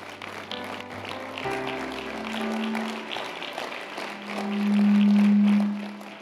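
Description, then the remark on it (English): An audience claps their hands in a steady, busy rhythm, the claps layered over sustained musical tones that swell louder near the end. “Come on and clap your hands, everybody.”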